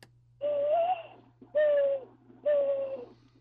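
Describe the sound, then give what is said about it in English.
A person imitates a mourning dove's cooing call as the doves sound locally, unlike those in Florida, with three drawn-out, hollow hoots at a steady pace, fairly loud over a low constant hum. “I noticed when I go to Florida, the mourning doves appear to be the same mourning doves, but they have a very different call.”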